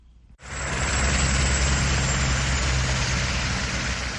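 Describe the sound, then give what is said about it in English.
A steady, heavy engine rumble of idling trucks in stalled traffic on a highway on the outskirts of the port city of Durban, with a deep low drone under a broad wash of noise that starts abruptly and holds constant, with no voices. “From the police helicopter hovering above, it looks like a normal, everyday rush hour traffic jam on a highway on the outskirts of the port city of Durban.”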